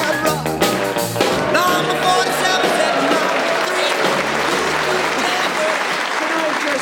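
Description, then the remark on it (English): An audience gives a slow hand clap to an old man, a dense, continuous wash of hand claps, with crowd voices and a few shouts mixed in over the first couple of seconds. “Slow hand clapping an old man is really, really, really.”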